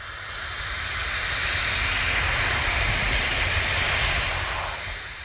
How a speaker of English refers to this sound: At the Ronneby Air Force Base in southern Sweden, jets are out on patrol over the nearby Baltic Sea. Some of them have been checking out reports of an unidentified Russian ship.